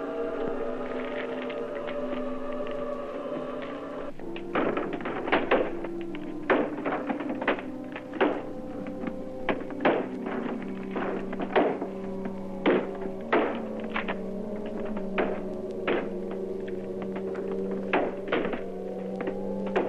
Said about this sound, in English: They're trying to knock down the door. I don't know how long it'll hold up.